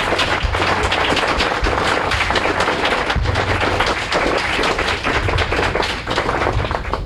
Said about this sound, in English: It's 5 o'clock, folks. Yeah. I want to, can we get a round of applause for these folks?